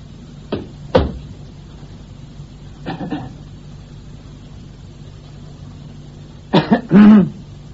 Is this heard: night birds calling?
no